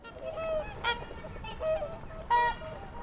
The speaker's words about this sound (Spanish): Eran cisnes que, lanzando un grito fantástico, extendieron sus alas espléndidas y largas y escaparon volando de las tierras frías a los países cálidos.